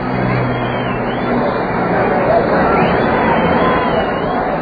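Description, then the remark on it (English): A dense, continuous roar of a large celebrating street crowd in Central London, many voices merging into a loud, steady hubbub with occasional swells, as people dance, climb rooftops and sky signs, and wave flags. “And as for the noise of it, well, listen for yourselves to Central London's DJ Roar.”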